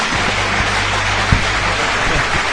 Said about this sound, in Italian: Falla bene, adesso sta per concludere l'applauso finto.